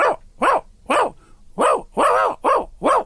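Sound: dog barking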